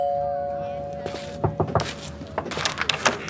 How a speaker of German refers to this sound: Also, während die ungeduldige Eule mit ihren Krallen im Boden scharrte, ging Basti langsam die letzten Meter bis zu Ellas Tür und betätigte die Klingel.